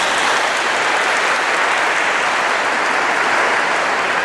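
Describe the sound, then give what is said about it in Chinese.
A crowd claps steadily and loudly, the dense patter of many hands filling the whole moment with no pauses and no voices. The applause is for a parish priest marking his parish's first anniversary, praised for learning Cantonese so well. “一年裏邊學到咁好嘅廣東話，真係唔錯，值得鼓掌俾佢。”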